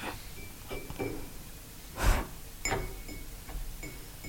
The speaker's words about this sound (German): Könnte sogar mit der Tasse, die vor dir steht, klappen. Willst du mal probieren mit den Fingernägeln?